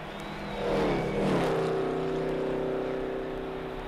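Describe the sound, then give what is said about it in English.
Art Malone's race car, number 75, drones loudly as it comes into the pits for its second pit stop, its pitch sliding downward as the car slows, then settling into a steady, throbbing idle with no voices. “There's Art Malone coming in again in car number 75, making his second pit stop.”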